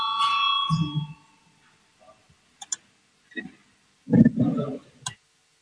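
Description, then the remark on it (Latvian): A bright bell rings at the very start to call a vote of deputies on a proposed amendment, its clear tone lingering for about a second before fading, followed by scattered clicks, shuffling and brief low voices. “Lūdzu zvanu, balsosim par 218. deputāta Adamoviča priekšlikumu.”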